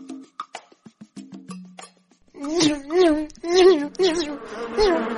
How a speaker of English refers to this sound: What's that noise? Oh, my goodness! There are so many of them! They're coming at me! More than a dozen mosquitoes attack the lion at once.